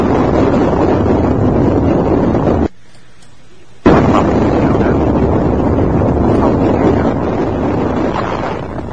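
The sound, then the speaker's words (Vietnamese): Loud, dense, overwhelming roar of battle explosions and blasts rumbling continuously, broken by about a second of sudden silence before the barrage resumes. No voices. Bombs and grenades explode amid fire from weapons such as M72s, M60s, M79s, M16s and AK-47s. “Súng phong, súng phong, súng phong, bom, bom.”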